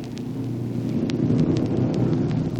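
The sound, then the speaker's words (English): A steady, droning roar of big racing cars circling an oval track, preparing for afternoon auto races in the grandstand, heard from Machinery Hill as a continuous rumbling hum with no voices. “From Machinery Hill, you hear the sounds of big racing cars circling the oval track, preparing for the big afternoon auto races in the grandstand,”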